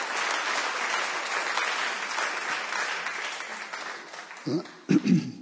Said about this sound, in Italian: Amen. Facciamo un applauso a Gesù, per favore. Diamogli gloria.